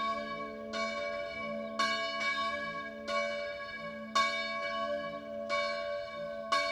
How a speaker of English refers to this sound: One thing I love about these bells is, again, the Doppler effect, as we've talked in a previous episode, the bell is swinging. And that's a unique quality compared to churches in North America that use digital recordings of bells.